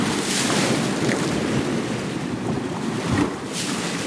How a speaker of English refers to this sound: Every night my family falls asleep to the sound of waves breaking on the shore. When we hear the water gather, lift, slosh, and churn, it's as if our beds are turning into beaches.